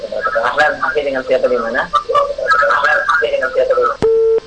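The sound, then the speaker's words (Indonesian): A caller's muffled, narrow-sounding voice talks over a phone line on a radio call-in broadcast. A sharp click then cuts the call off, and a steady, loud electronic line tone hums alone for the last half second. “Masyaallah. Terlalu maaf terputus.”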